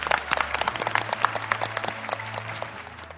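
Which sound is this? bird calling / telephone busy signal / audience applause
audience applause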